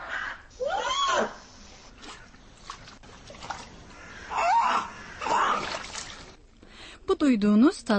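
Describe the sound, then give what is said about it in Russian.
A newborn polar bear cub named Knut at the Berlin zoo splashes in water, giving several wavering, whining cries, with a louder, rising and falling wail at the end, over steady splashing and trickling water. “В этом репортаже слышны крики плещущегося в воде медвежонка.”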